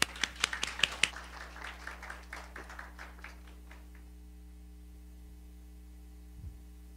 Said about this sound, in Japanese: 主に送ってくださった主に期待して拍手を持ってお迎えしましょう。